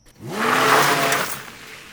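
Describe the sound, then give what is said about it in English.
A car engine revs up sharply, its pitch climbing and holding steady as the vehicle pulls away, then the sound eases off as it moves away. No voices. “Why don't you use your car? You know how to drive that.”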